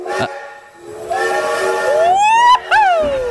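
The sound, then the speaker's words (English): A loud steam train whistle sound effect blows a long, breathy chord that bends upward in pitch, cuts off briefly, then sounds a second short blast over a steady hiss. “It's the Trubisky train!”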